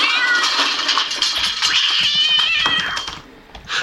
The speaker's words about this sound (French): Comme un bruit de clé et les miaulements d'un chat courroucé.